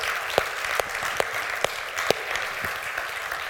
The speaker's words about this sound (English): Could we give him one more hand clap of praise today? Amen.